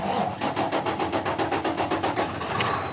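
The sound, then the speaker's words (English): A trucker starts the engine of his shiny new big rig truck, which he uses to haul shipping containers from ports to warehouses. It settles into a steady, throbbing rumble, its heavy pulses repeating rapidly and evenly, loud with no one speaking. “He's starting the engine of his shiny new big rig, which he drives for a living, score one for jobs.”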